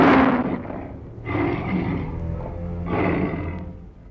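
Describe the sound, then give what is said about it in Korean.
A tiger in the jungle growls and roars in three deep, rumbling bursts, loud, each swelling then fading, with no talking. “첫 번째 호랑이가 어마어마한 앞발로 하니발을 와락 잡아채면서 으르렁거렸어요”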